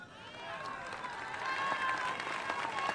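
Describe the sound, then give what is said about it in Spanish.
An audience applauds a speech steadily, a dense wash of clapping that swells slightly partway through, with crowd voices blended into the noise. “Yo sé que muchos de los que me están aplaudiendo tienen planes sociales y sé que lo que más desean es tener un empleo.”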